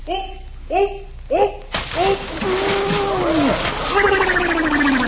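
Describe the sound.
A big, loud splash crashes in suddenly after a few short vocal cries as a man jumps into a swimming pool, followed by a sustained wash of churning, spraying water with voices exclaiming over it.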